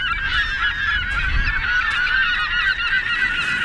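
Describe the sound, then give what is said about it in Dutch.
A dense flock of geese honking and calling continuously in the dunes at the northernmost tip of the Netherlands, overlapping raucous cries with steady loudness and no voices. “Op het noordelijkste puntje van Nederland zie je zand, pruttelende modder, wat verlaten arbeidershuisjes en vogels.”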